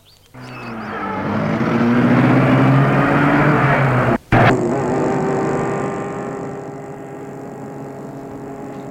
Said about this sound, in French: Julien fait entrer Adélaïde dans la voiture. Entre et met la voiture en route.